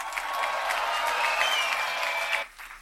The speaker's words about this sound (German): Mit ihm kommt mein sehr verehrter Martin Schwab als Vertreter des Burgtheaters und von Aufwachen, bevor es wieder finster wird. Ich bitte um einen ganz großen Applaus für die beiden.